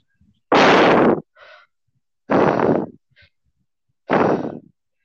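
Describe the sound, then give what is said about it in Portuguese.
A voice imitates heavy, creepy breathing on a phone call: three long, loud, noisy breaths, each followed by a shorter, fainter intake, spaced at a slow, steady rhythm. “Tá, Aí nós. ficou respirando. A gente ficou, nossa, que medonho.”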